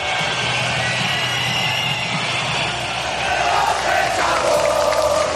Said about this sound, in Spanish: Bueno, esto es difícil de medir, pero muy probablemente el de hoy ha sido el mayor abucheo contra un presidente en este tipo de actos.